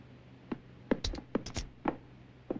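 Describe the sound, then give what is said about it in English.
A series of dull thumps with a faint metallic chink as a man knocks two bags of money, just pulled from a barrel, together several times at an uneven pace, with no talking. “He brings out another, and smiling to himself, knocks the bags together.”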